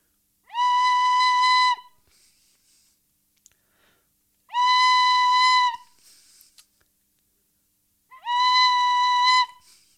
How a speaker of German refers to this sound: Nimmt das Telefon in die Hand. Freizeichen.